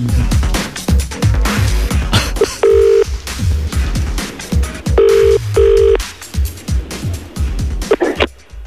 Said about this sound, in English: Let's phone Jo Wiley's gran now and see what she's saying.